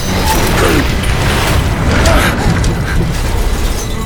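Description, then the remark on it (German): A clockwork mechanism bursting apart: a loud, sustained rush of rattling, grinding gears and creaking metal over a deep booming rumble, lasting about four seconds without letup. “Das Zeitmonster entwickelte sich zu seiner vollen Größe. Und dann explodierte es.”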